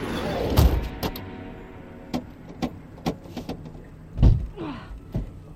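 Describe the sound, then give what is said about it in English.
Car door locks, a system called Master Lock, clunk and click in an irregular series of sharp mechanical snaps, with a heavier thump near the end and a brief motorized whir, with no one speaking. “Doors won't open, babe. It's called Master Lock.”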